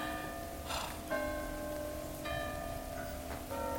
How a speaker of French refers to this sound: Grand-mère, tu entends la cloche? Oui, ma chérie. C'est pour le petit garçon qui est mort.